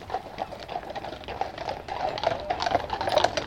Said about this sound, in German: Morgens am Hafen von Fitte. Ein Pferdewagen nach dem anderen rollt auf den Kutschenparkplatz.